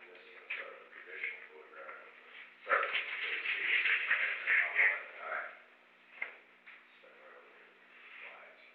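A dog whimpers and shuffles about, soft high whines coming and going, growing louder and more restless for a couple of seconds midway before settling again.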